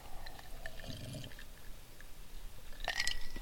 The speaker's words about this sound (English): Another slurp of the iced Mountain Dew.